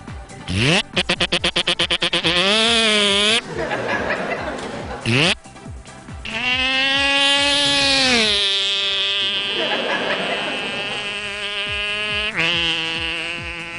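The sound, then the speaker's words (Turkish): A Yamaha 115 outboard boat motor whines past with a loud buzzing drone that rises and falls in pitch in several long sweeps, broken by brief rapid sputtering bursts at the start. “Otobandan geçişiydi bu.”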